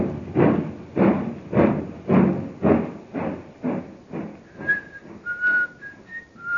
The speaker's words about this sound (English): Watch him as he walks up the platform. The train is already disappearing from the track.